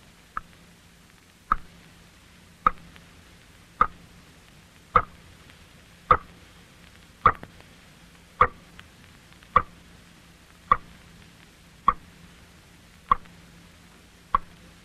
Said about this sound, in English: I have heard ghosts who sounded much like that, in lonely houses about 3 o'clock on some dark morning, and I have found out what made them. It was water dropping slowly from a leaky faucet into a sink or a bathtub. That is what you just heard.